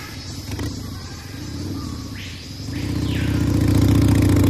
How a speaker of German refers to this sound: Im Dschungel Motorrad zu fahren ist nicht leicht.